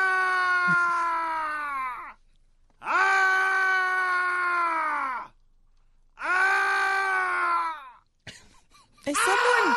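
A man lets out three long, drawn-out screaming groans, each lasting about two seconds and separated by brief pauses, ending with a shorter strained cry, loud.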